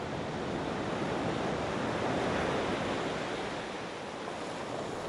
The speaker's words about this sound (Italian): Il mare risale e si mangia la spiaggia ed i cellulari degli ignari.